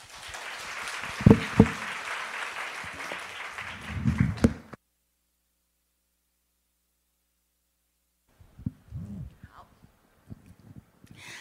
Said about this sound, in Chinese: 我们再次为这个妈妈鼓掌。